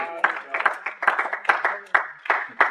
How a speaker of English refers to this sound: I give him a hand clap in the house.